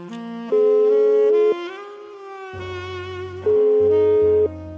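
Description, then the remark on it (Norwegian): A telephone ringing tone sounds twice, each a steady mid-pitched beep about a second long, separated by a pause of about two seconds, over a quieter sustained musical background, as a call is placed to Frank Aarebrot. “Jeg har ringt til bergenskjendisene i hele dag og Aha.”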